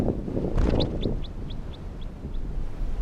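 An orange male bird released from a net flies off: a brief fluttering burst, then about seven high, evenly spaced chirps that gradually fade, over a steady low wind rumble.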